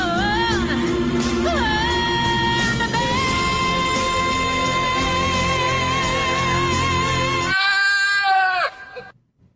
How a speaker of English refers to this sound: What's a singing goat have to do with factoring? Nothing. OTR Capital. Better than the rest.